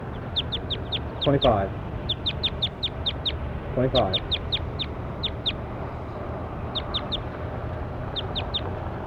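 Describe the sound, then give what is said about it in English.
A bird calls in repeated bursts of short, high-pitched chirps, several notes per burst, over a steady low rumble, with a couple of lower, harsher calls near the start. “That's bird 25, so I'm going to 25 now.”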